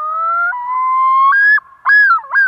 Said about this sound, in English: We all know that familiar cry of a very familiar bird, or maybe we think we know it. How much do we really know about the common loon?